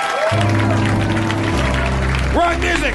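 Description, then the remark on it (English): An audience at the end of a Harmontown show applauds steadily for the whole stretch, a dense crackle of clapping blended with loud music carrying low sustained tones, with voices faintly mixed in. “We keep clapping!”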